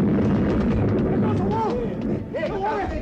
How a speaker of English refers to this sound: We ran, the three of us, and behind was the mad old man with his charge of dynamite. We reached the Mermaid Gallery when it went off.